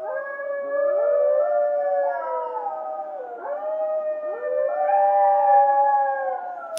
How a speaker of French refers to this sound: Le cri du loup qui retentit dans cette tête au carré